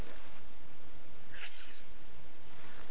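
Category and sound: human body sound, sneeze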